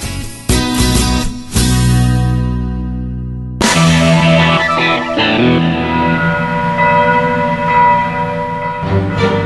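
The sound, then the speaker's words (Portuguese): Church bells of a cathedral on a hill called Eterna in Burgundy, France, ring out in a series of loud, resonant strikes, their tones overlapping and lingering as each new peal sounds, with no voices present. “O som dos sinos vem lá do alto e parece nos chamar para esta colina, batizada de Eterna.”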